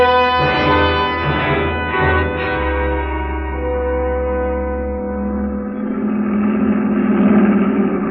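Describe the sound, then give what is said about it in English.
The engine of a heavy truck in a Nazi military convoy roars loudly as it comes around a curve, its deep rumbling drone holding steady before shifting to a rougher, grinding growl as it passes. No voices are heard. “The first truck of the Nazi convoy roared around the curve and passed.”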